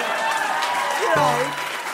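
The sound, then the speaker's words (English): An audience claps rhythmically in a dense, continuous wash of hand claps that stays fairly loud throughout, with a voice briefly rising over the clapping partway through. “I started to hear some rhythmic clapping.”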